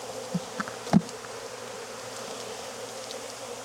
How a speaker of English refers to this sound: There's enough bees in here to draw out some good wax in this flow.